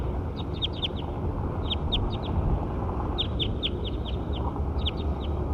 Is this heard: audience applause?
no